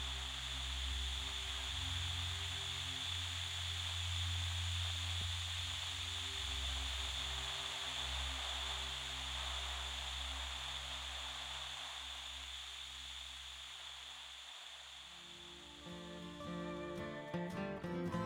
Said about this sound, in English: I turned on the TV, and a chill ran up my spine. Static. Just static.